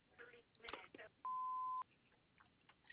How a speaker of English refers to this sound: If you like, you can leave a message after the beep.